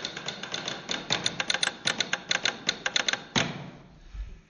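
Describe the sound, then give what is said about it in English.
Rapid mechanical keystrokes clack from an old-fashioned typewriter as a telegram is typed onto an ornamental telegram form, a fast irregular burst of sharp strikes with a few faint bell-like pings, ending with a heavier carriage clunk before quiet. “And they will type it on an old-fashioned typewriter.”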